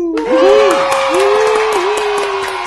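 A burst of crowd applause, with steady clapping and cheering voices rising over it. The sound is loud and sustained for a few seconds and stays fairly even.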